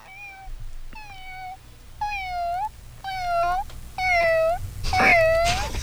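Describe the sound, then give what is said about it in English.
A person's voice mimics a cat, giving about six drawn-out, wavering meows in a row, fairly loud, with short pauses between them; the last one comes out rougher and more strained. “Kitty?”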